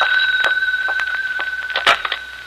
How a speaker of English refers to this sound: But then, the next day, as I walked into the house, the phone rang.